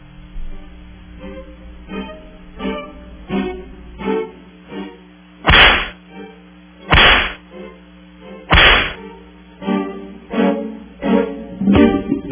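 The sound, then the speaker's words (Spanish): Three loud, sharp whip-crack sound effects, given as lashes for the president of ANDA, Rubén Alemán, land a second or so apart, standing out over a rhythmic musical backing of short plucked notes that continues before and after. “Están avisados, por eso le vamos a dar los latigazos al presidente de ANDA, Rubén Alemán.”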